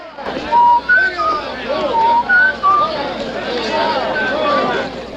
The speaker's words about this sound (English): He whistles towards the saloon balcony.